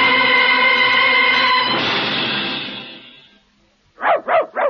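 A long, steady tonal whine that turns rough and fades, then a brief pause before a dog lets out three quick, sharp barks in an even rhythm. No one speaks.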